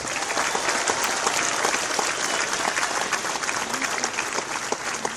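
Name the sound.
audience applause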